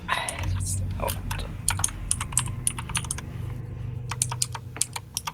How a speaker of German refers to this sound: Sorry, dass meine Tastatur so laut ist.